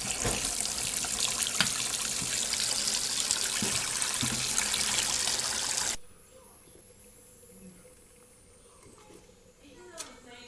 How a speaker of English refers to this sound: Eating my cornflakes, staring at the coffee maker to make coffee. Make the damn coffee already. Oh, I can see its black velvety goodness coming through the strainer already. It won't be long.